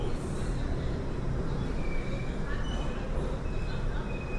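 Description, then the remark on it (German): Subway train cars rumble steadily through a tunnel tube, a dense, continuous low roar that stays loud throughout, with faint high metallic squeals drifting in and out; the cars push the sound waves, giving a strange Doppler-like effect. “Das geht nur durch diese Waggons in dem Rohr.”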